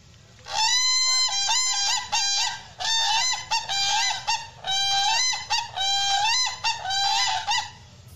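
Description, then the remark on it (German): Whooping cranes calling in a loud, continuous series of harsh, bugling whoops, several birds overlapping in rapid bursts with brief pauses between them, over a low background rumble and no talking. “Also wenn die schreien, ne, die haben ihren Namen nicht von ungefähr, dann hört man die über Kilometer.”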